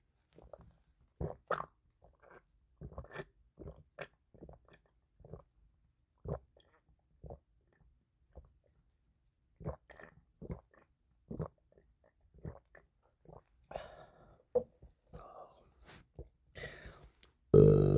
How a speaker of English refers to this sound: I have a big old thing of milk here and I wanna drink it on the mic and see if I can capture my gulps or whatever.